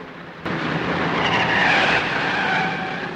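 A car hurtles into an airfield and skids hard, tires screeching loudly for a few seconds after an abrupt start, with a broad rough hiss that swells and then slowly fades. No one speaks.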